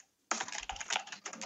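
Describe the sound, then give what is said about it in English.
Rapid, furious typing by a busy photo editor on a computer keyboard, a dense flurry of clicks and clacks starting after a brief silence and continuing nonstop with slight pauses, no voices present. “I'm just recording your furious typing.”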